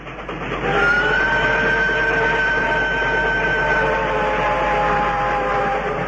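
An approaching train heard from a distance rumbles steadily, with a long, sustained horn or whistle tone layered over it, swelling in at the start and then holding loud and continuous, with no voices.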